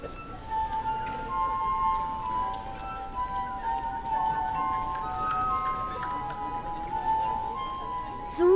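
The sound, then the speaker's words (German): Water-tuned drinking glasses, played by rubbing a wet finger lightly over their rims, sing with sustained, ringing musical tones, several pitches overlapping and shifting over a soft noisy background, with a louder swell at the very end. “Wenn man Wasser in die Gläser füllt, wird der Ton tiefer. So findet man die Töne, Glas für Glas.”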